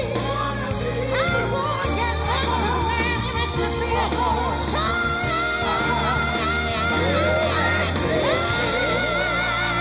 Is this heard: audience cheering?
yes